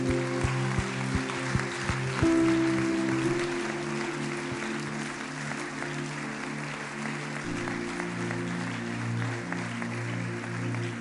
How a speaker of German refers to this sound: Lass diesen Leuten mal einen fetten Applaus geben.